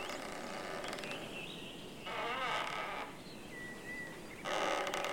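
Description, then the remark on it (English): A tree creaks in gusty wind in a forest, with a couple of drawn-out groaning strains rising over a steady outdoor rush of air, and faint bird chirps in the background. No one speaks. “And can you hear that tree creaking in the wind?”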